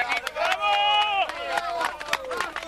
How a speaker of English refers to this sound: Rescuers cheering there.